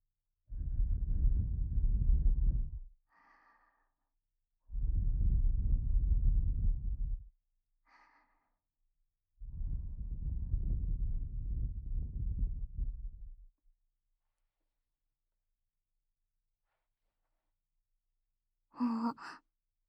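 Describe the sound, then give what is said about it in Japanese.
Three long breaths blown softly right against the ear, each lasting a couple of seconds with pauses between, separated by faint breathy murmurs and ending with a brief soft vocal sound. “吐息を吹きかけてあげただけなのに”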